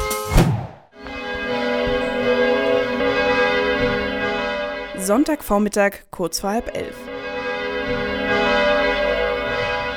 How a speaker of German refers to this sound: Die Glocken der St. Christophoruskirche in Himmelkron läuten zur Sonntagsmesse.